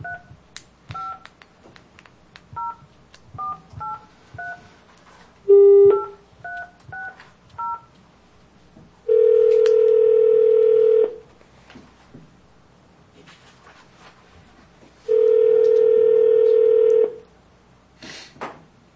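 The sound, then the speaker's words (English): A quick series of telephone keypad dialing beeps, about a dozen short tones, followed by two long, loud ringing tones spaced a few seconds apart, as a county Board of Equalization member in Taney County phones a property owner. No one speaks. “Or you want to call him first? I'll get him on the phone.”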